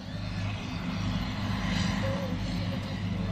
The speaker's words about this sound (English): I've come down to the tractor racing experience. It's a beautiful day. It's Friday at the field days. Finally, the sun has come out. There's a driver instructor in the tractor with one of the competitors